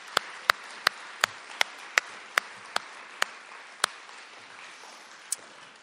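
A crowd applauding steadily for three writers at a reading event, a dense wash of clapping with a few sharper, louder individual claps popping out at irregular intervals. No one speaks.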